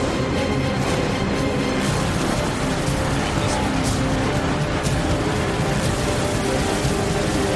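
Dense, loud dramatic score from the film Fury Road swells as a storm approaches, with a thick, roaring, storm-like wall of sound that stays intense and unbroken throughout, with no one speaking over it.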